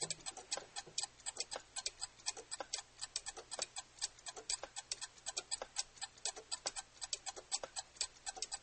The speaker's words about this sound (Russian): Наступила гнетущая тишина, в которой слышно тиканье карманных часов.